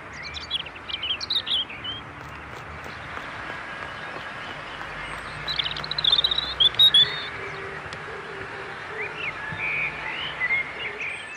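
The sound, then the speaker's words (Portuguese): Birds sing and chirp at a lagoon in Pampulha over a steady outdoor background hiss, with several bright, high calls clustering in the middle and scattered tweets throughout, with no one talking. “Será este aquele que eu procuro? O canto perfeito do meu pássaro perfeito?”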